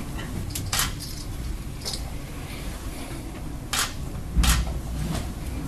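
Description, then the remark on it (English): Camera shutters clicking in irregular sharp bursts at Bill Belichick's post-game press conference, several snaps scattered over a few seconds against a steady low murmur of background noise, with no clear speech. “That noise, barely audible, above the clicking of cameras, was the sound of a guy shaking his head and muttering.”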